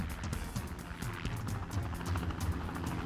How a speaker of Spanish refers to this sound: Entonces escucharon el helicóptero.